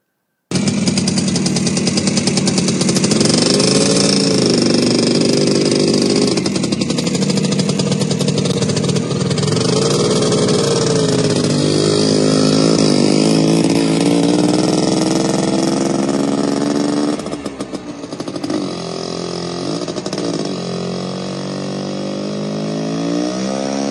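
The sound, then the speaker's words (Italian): A Piaggio Ape three-wheeler's buzzy, rasping engine runs loud and steady as it sets off, its pitch rising and falling through several gear changes, with a brief dip in the drone near the end; its gears were not engaging well. “Io sono andato con questa ape, mi hanno dato questa ape. Non andava molto bene, allora le marce non sono entrate e così via, difficile.”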